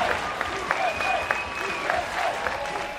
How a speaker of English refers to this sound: Recognizing the United States of America. And the crowd erupts.